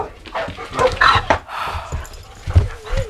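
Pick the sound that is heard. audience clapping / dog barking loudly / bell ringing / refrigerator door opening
dog barking loudly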